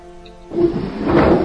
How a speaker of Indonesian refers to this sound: Terdengar suara benda-benda seperti digeser-geser.